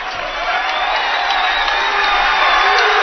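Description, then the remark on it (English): A large capacity crowd of Bearcat fans at Bearcat Arena roars and cheers continuously during a game against the Mavericks, a dense, loud wash of many voices with scattered whoops, sustained throughout without pause. “And the Bearcat fans trying to make some noise. It's a capacity crowd at Bearcat Arena for this matchup with the Mavericks.”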